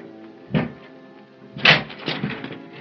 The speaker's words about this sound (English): we must break open that door.